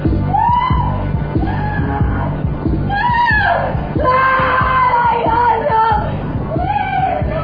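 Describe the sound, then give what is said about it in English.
A woman screams and yells loudly in repeated, strained, piercing bursts across the whole stretch, with a rowdy background of other raised voices. “had been screaming all day, but it hadn't really registered before.”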